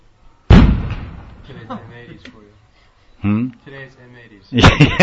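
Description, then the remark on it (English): A loud firecracker blast rings out and decays, followed by voices talking, then a second sharp bang at the end. Sounds like M80 firecrackers exploding. “Today's M80s for you. Today's M80s. Yeah, sounds like it.”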